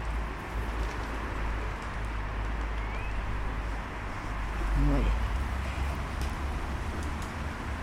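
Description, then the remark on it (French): A steady, low rumble of car traffic fills the background throughout, with a slight swell near the middle as a vehicle passes; a voice briefly speaks over it. “On entend plus les voitures avec ce micro.”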